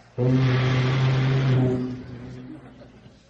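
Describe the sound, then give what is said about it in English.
A performer vocally imitates a boat whistle into a Shure microphone without props, a single loud, sustained tonal blast with a steady low pitch that holds for over a second before fading out. “And boat whistles.”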